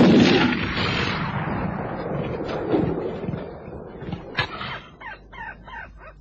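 A single loud rifle shot bursts out at the start, then booms and rolls away in a long fading echo, leaving a few scattered softer cracks and rustles behind. No one speaks. A man fires the rifle at a lion at dusk.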